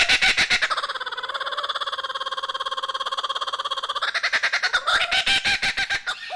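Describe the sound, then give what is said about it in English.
A kookaburra, an Australian bird of the kingfisher family, laughs loudly, a rapid chattering series of harsh notes that holds steady, then breaks into rising, whooping cackles toward the end. No one speaks. “So this is an Australian species of bird in the kingfisher family, and they make that really characteristic laughing, whooping noise that tricks a lot of people into thinking we have monkeys.”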